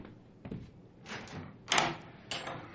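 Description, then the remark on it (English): A door rattles and thuds as if being forced, several heavy knocks and scrapes in an uneven rhythm, moderately loud, with no voices. “Open the door, or I will break it open.”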